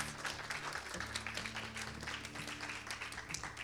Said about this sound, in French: Bravo Valeria, on l'applaudit très fort.